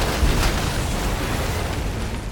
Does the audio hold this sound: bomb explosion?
yes